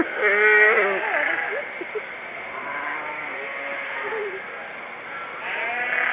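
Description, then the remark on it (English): A sheep in the sheep barn at the Nebraska State Fair lets out a loud, wavering bleat, followed by another bleat near the end, over steady background hubbub from the busy barn. “There's a sheep over here that's just bawling like mad.”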